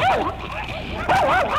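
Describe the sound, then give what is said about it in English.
A 12-week-old St. Bernard puppy barks in two loud, close bursts, each a high yelping bark that bends up and down in pitch, with a brief gap between them. “WIL has a dog without a name.”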